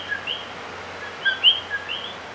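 Tiny coqui frogs in Puerto Rico call repeatedly, each call a quick pair of rising, whistle-like chirps stepping up in pitch. The calls overlap at moderate volume over a faint steady hum, with no one speaking.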